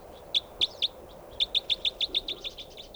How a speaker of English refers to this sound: There's a bird right above me here.